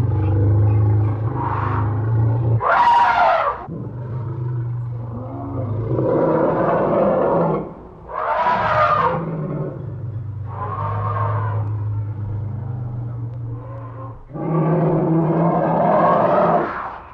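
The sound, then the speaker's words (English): A voice imitates an upset elephant, with low, droning rumbles broken by several loud, brassy trumpeting blasts, fairly loud across about seventeen seconds. “For those of you who don't speak elephant, I'll translate. Jumbo Jr. is very upset”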